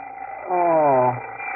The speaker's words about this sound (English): Oh, the alarm clock. Must be 8 o'clock.